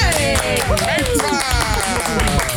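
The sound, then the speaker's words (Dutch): Steady audience applause welcoming designer and TV presenter Christine Meijnersma, a dense patter of many hands clapping at an even loudness, with pitched tones or voices gliding above it throughout. “Dames en heren, warm applaus voor ontwerpster en presentatrice tegenwoordig, Christine!”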